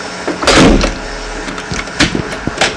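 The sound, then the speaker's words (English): A door swings shut with a broad thud, followed by a few sharp metallic clicks and clunks of its lock being worked, with no talking. “And do you want to close this door? I'm locking. You're locking this door.”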